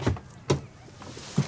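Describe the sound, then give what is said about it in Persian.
A car's power window being lowered: a soft mechanical motor whir with a few distinct clunks and thumps spread across the short stretch, no voices present. “طلا شیشه رو پایین میده”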